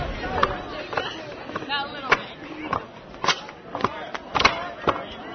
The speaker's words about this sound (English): Two-by-six stomp races, where participants had to put on extra tough boots nailed to wooden planks. Get set, go!